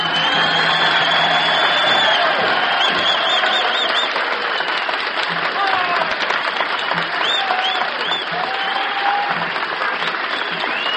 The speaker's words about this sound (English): and the applause is now being volunteered and offered by the paid customers this evening at the Carousel.